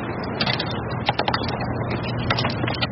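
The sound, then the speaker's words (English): A trailer being hitched to a bicycle: a few sharp metallic clicks and clanks in short bursts, over a steady low rumble of background traffic. “Let's switch up the trailer here.”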